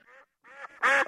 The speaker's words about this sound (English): That's a duck. Ducks and a rooster and a duck.